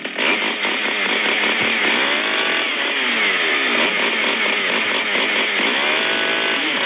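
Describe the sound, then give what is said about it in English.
A chainsaw engine runs loud. Its pitch rises and falls in deliberate revs that trace out a melodic pattern as the chainsaw is played like a musical instrument. No one talks over it. “I'm going to play a chainsaw.”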